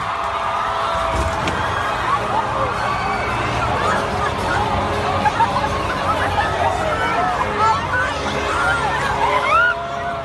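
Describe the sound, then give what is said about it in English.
A large crowd of fans at a Ryan Reynolds appearance in Brazil shouting and clamoring in a dense, continuous roar of voices, with excited yelps and a brief low thump early on as people surge against a barricade that topples. “Basically, the crowd was just pushing against this barricade, and it toppled over, and then everyone let loose.”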